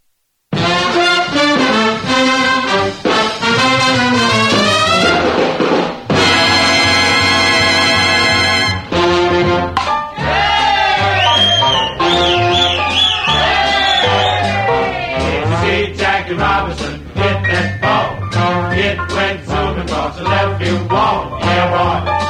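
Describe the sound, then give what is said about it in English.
A vintage song recorded for RCA plays loud and continuous, with vocal singing over a steady bass line and band accompaniment, including a brief burst of bright, crashing percussion partway through. “we'll start it off with this one, done for RCA.”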